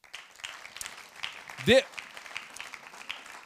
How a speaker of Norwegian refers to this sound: Skal vi gi en liten klapp?